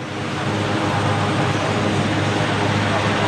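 helicopter flying overhead

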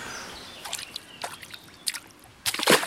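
water lapping

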